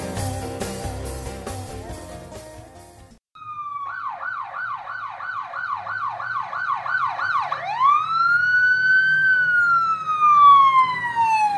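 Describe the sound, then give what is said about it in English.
A brief burst of music cuts off, then a loud ambulance siren yelps in rapid pulses before switching to a long, slow rising and falling wail. “What if you had a medical emergency and the nearest ambulance had to come from Imperial County or other distant places an hour or more away?”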